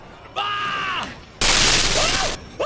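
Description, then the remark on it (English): A loud, harsh video game explosion effect bursts out for about a second, crackly and distorted like blaring static, preceded by a short wavering electronic tone. “showed off an extremely loud explosion sound effect that sounded like TV static turned up to 100.”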